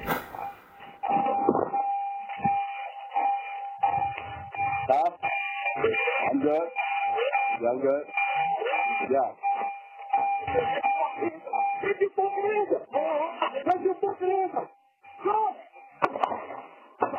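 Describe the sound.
An electronic car door-open warning chime rings steadily and insistently, a thin repeating electronic tone over muffled, indistinct background voices and noise, sounding like a narrow-band phone recording.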